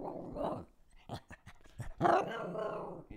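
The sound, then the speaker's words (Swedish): A female dog growls in a low rumble, then lets out several short, sharp barks, ending in a longer throaty growl-bark. “Och hunden. Hunden Bella.”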